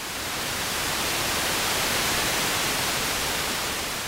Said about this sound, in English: No, not waves. Sounds like it's static. Yeah, to you and I, there's nothing there to listen to.